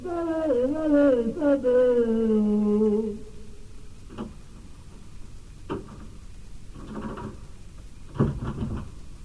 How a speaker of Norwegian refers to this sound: Jeg har låst deg ut. Det branglåst på døren her da.